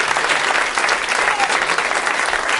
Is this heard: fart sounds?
no